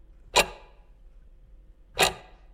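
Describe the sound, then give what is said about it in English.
Two crisp, isolated clicks of a clock ticking, spaced well apart in a slow, steady rhythm, fairly clear against a quiet, faintly humming background. “Listen to the ticking. They're closed. Of the clock.”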